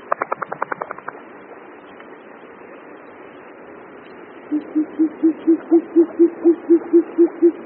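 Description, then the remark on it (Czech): A steady series of about a dozen low, hollow short-eared owl hoots, evenly spaced and fairly loud, follows a quick burst of sharp rapid pulses at the start. No one speaks. “Pustovka je tak jednou z mála sov, které loví ve dne.”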